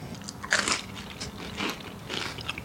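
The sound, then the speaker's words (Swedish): A crisp bite into a slice of bread toasted in a grill pan and topped with grated tomato, olive oil and salt (Catalan pan tomaquet), then a few crunchy chewing bursts spaced unevenly across a couple of seconds, moderately loud with no talking. “Vad gott med så med grillat bröd faktiskt.”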